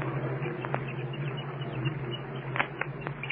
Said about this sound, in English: You can hear them chirping anyway inside of the egg. There's the thump now. I'm sure you can hear the chicken plainly pounding on the interior of his shell. There's plenty of chatter, too.